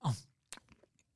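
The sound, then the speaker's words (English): Someone chewing chocolate creams: a brief muffled, full sound opens, then after a pause come soft, scattered wet mouth clicks and smacks, faint and irregular, with no talking. “I'm sorry I've eaten all of them except these.”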